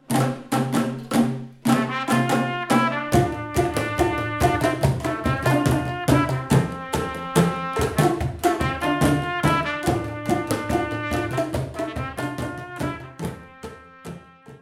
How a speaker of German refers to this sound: Und das Perkussionsensemble der Martin-Luther-Schule, das haben wir eben gehört, hat schon gestern in Michelstadt gespielt. Sicherlich mit großem Erfolg und unter großem Applaus.